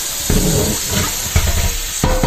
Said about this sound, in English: Oh, that's hot. turn on the water. Actually, I'm going to fill up the sink so I can drain whatever.